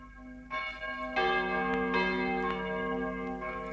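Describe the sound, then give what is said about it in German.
A church bell strikes eleven o'clock, about four slow, evenly spaced strokes in this stretch, each blooming into a rich, lingering hum of overtones. Fairly loud and resonant, with no voices. “Während die Glocke 11 läutet,”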